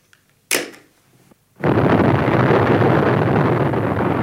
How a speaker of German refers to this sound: Eine originale Bombenexplosion aus dem Pazifik. 10 Megatonnen. Das, ja, das ist genau richtig.